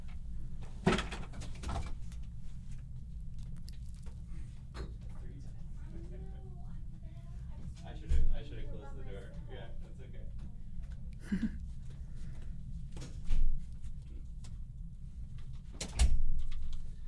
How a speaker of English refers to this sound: Sorry, 1 second. I have to go close the door.